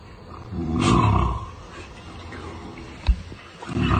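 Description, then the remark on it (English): A deep, throaty T. rex roar swells loudly for about a second with a broad rasping texture, then trails off into lower rumbling, broken by a sharp thump before another growl rises. “That sounds like T Rex, doesn't it?”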